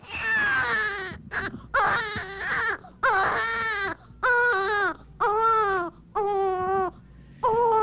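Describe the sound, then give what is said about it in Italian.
A newborn baby girl cries at her birth nearly 48 years ago, in a series of about eight rhythmic, wailing bursts with brief breaths between them, loud, with no other voices. “E questa torno indietro di 48 anni quasi quando è nata la voce il pianto di mia figlia”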